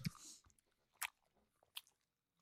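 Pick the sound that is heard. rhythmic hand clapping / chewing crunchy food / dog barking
chewing crunchy food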